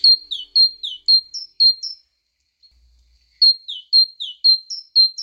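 bird, great tit song

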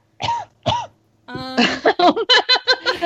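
human body sound, cough

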